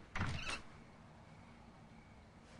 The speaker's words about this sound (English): Setting his briefcase on the banister, the family man goes upstairs. He opens his bedroom door